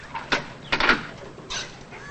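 An apartment door is opened: a sharp latch click, then a brief scraping swing and a final softer knock, with no voices present.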